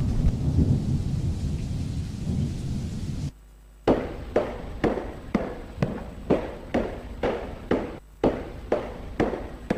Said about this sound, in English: Late at night, what happened again? A lightning storm flashing at the beginning of the terrible event.